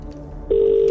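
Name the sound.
phone call ringing out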